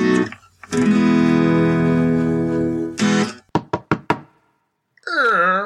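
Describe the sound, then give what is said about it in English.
Four sharp, evenly spaced knocks on a door ring out right after a sustained droning tone ends; a voice follows a moment later. “You knocked on the door.”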